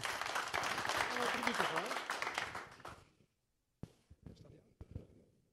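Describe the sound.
Dense crowd applause fills the first three seconds, then tapers off into silence, followed by a few scattered thumps and shuffling sounds as a voice begins.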